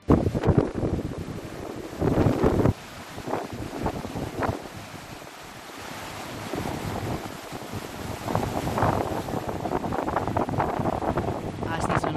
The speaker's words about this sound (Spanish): Riazor, hay temporal en el mar con alerta roja que ya ha pasado de naranja por viento y por olas. Lo peor ha estado por la noche, tanto en el litoral como en tierra.